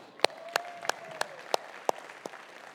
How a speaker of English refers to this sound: Everybody clap